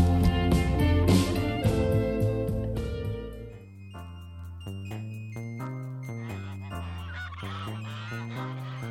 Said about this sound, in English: Get out of here, you geese. And like the geese, we're back. We're back, yeah. I've been hearing them. They're flying over constantly.